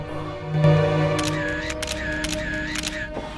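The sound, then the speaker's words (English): Several quick camera shutter snaps, taken of a man from outside, come in two clusters of crisp clicks with a short whirring wind between them, over a steady low droning hum. “As the camera snaps him from outside, he looks down at a glass of clear liquid.”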